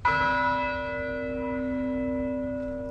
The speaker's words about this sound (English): Bells rang out across the Virginia Tech campus today, 1 week to the day since a student gunman killed 32 students and teachers.